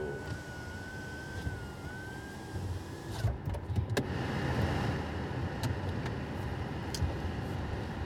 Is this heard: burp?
no